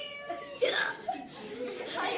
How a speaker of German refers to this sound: Gar nichts. Aber ich hab's doch gerade laut und deutlich miauen gehört.